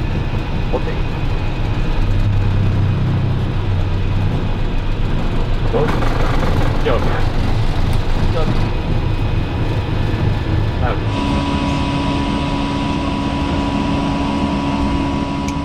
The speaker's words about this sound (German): Und dann irgendwann war einfach klar, jetzt starten wir, jetzt ist Ende. 15.39 Uhr Ortszeit am Sonntag, den 8. November 2020, ist Air France Flug AF1235 in Tegel abgehoben. Und das war das allerletzte Mal.